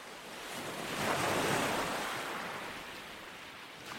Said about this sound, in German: Ich grüße euch von der Nordseeküste. Ich bin im Urlaub, sitze am Strand, lausche dem Meeresrauschen